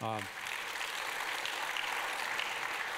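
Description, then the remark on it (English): Scattered, half-hearted clapping from a church audience for the worship team fills the space steadily, a brief voice fading out at the very start before the thin patter of hands carries on alone. “That was pretty pitiful clapping.”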